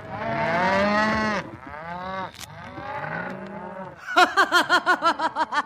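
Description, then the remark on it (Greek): Agitated young cattle moo in long, drawn-out, wavering calls, then several shorter moos follow, ending in a quick run of about nine short, pulsing bellows. No one speaks. “Αγρίεψα τα βούλια.”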